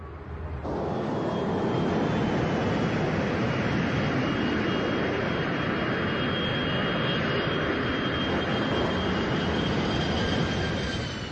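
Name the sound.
airplane landing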